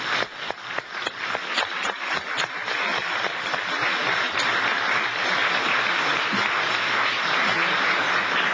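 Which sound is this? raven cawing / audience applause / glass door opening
audience applause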